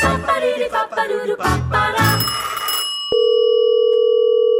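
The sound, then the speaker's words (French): A telephone bell rings loudly and brightly for about three seconds, then a click cuts it off and a steady electronic line tone hums on. No one speaks. “C'est ça un coup de téléphone, en fait.”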